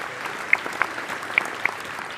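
An audience at a stage event applauds itself and a participant: dense overlapping hand claps forming a continuous wash of applause with a few sharper, louder claps standing out, and no voices heard.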